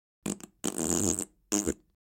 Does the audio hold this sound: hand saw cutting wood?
no